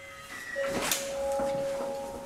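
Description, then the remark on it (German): A door swings open with a brief mechanical whoosh and faint creak, accompanied by a steady electronic hum, at the national reference laboratory of the German Federal Institute for Risk Assessment. “So, jetzt geht's hier in die Türe. Kommen Sie rein.”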